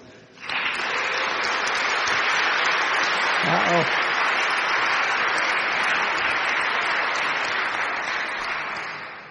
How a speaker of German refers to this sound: Möcht ihr einmal aufstehen und wir begrüßen euch einfach mal mit einem Applaus.